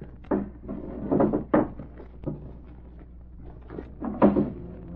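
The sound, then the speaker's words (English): A desk drawer is pulled open with a few wooden knocks and rattles, followed by quieter rummaging for a phone book and one final louder clunk near the end, with no talking. “I saw one in the desk drawer. Might as well have a look.”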